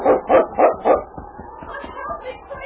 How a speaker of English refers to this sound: Then suddenly King stopped up ahead and barked.